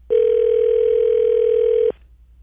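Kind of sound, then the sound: signal or alarm, telephone dial tone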